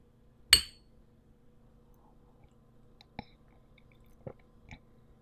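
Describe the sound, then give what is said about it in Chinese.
A single bright, ringing clink of glasses touching in a toast at a Qixi festival celebration, followed by a few soft, scattered taps and clicks in otherwise quiet surroundings, with no voices. “来，庆祝我跟姐姐姐夫在一起过的第一个七夕，干杯。”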